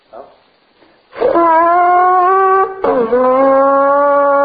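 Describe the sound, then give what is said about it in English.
After a few soft breathy puffs, a horn is blown with buzzing lips: two long, loud, steady blasts with a rich, brassy, reedy tone, separated by a brief pause. “So if you keep your lips moist and your horn moist, I always, before I blow mine, do this.”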